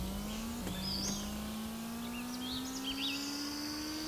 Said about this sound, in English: Yeah, basically this car is really fast, but has shit steering.